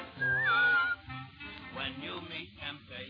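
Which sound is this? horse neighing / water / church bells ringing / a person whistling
a person whistling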